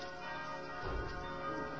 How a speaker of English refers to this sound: I keep hearing these bells.